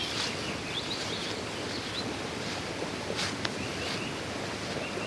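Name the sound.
rushing stream water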